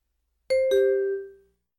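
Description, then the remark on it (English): A school bell chimes two clear descending notes, ding then dong, fairly loud, each tone ringing out and fading away over about a second, marking the end of class, with no voices present. “The bell rings again when class is over.”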